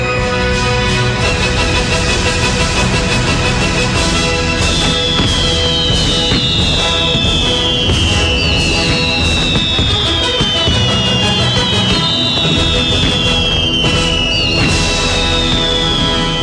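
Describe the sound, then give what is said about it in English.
Loud, continuous Fourth of July fireworks set off by neighbors: dense crackling and booming bursts, with repeated high whistling shrieks that slide downward in pitch every couple of seconds. “4th of July, your neighbors will be lighting off fireworks all night long”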